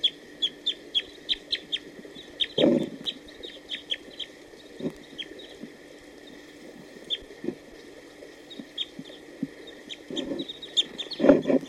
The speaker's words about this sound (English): although there were some song phrases given by a wild bird just a few minutes ago. It was probably that wild male who just came down to bathe, and he's now hanging around here.